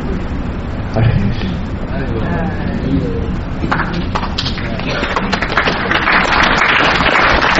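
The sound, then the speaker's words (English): An audience at a Krishna devotional talk gives steady, moderate applause, a dense patter of clapping hands mixed with murmuring voices, the clapping growing a little brighter and fuller toward the end. “Thank you for your polite applause.”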